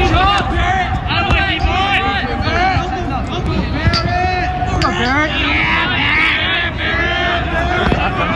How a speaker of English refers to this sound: That is his team just cheering for him as he goes into the game.